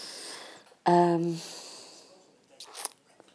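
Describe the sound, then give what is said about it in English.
A man in the room above clears his throat once in a short, gruff, voiced rasp that fades out, followed by a fainter breathy rustle a moment later, with no talking. “He's been clearing his throat for the past God knows how long.”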